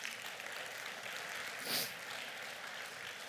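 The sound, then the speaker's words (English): An audience at Lakeland Baptist Church applauds the Lord steadily for a few seconds, a dense crackling wash of many hands clapping at once, swelling briefly in the middle. No one speaks over it. “You can give the Lord a round of applause right there.”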